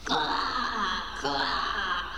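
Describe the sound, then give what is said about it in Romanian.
A person imitates a crow's caw with two drawn-out, wailing cries, the second following right after the first, loud with no other sounds. “Da, un fermier și o cioară mare și grasă s-a cocoțat pe umărul meu și a croncănit așa.”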